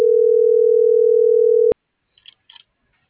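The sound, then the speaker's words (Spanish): A steady, loud telephone dial tone hums for nearly two seconds while a call is being placed, then cuts off abruptly with a click, leaving a few faint, brief chirping noises in near silence. “La ECO 63 se les marca.”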